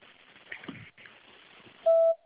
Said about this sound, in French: Bonjour, je ne suis pas là pour le moment. Vous pouvez me laisser un message après le bip sonore.